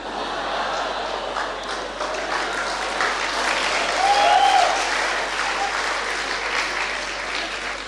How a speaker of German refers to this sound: Ich weiß nicht, warum ihr jetzt klatscht, das ist doch überhaupt keine Leistung.